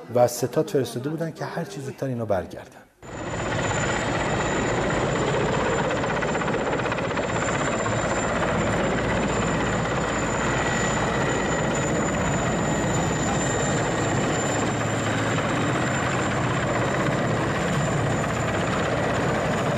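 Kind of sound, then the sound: vehicle, helicopter flying overhead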